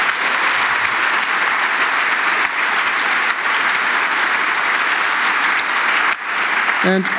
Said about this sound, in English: And yeah, I'd like to ask for some applause for them, because I was none of them.